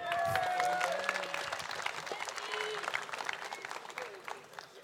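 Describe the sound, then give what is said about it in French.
An audience bursts into sustained applause, dense clapping filling the space, with a few scattered voices and whistles mixed in near the start before the clapping gradually thins. “Je vous demande un tonnerre d'applaudissements”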